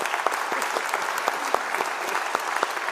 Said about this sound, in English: I know we've already given her a clap, but let's give her another one.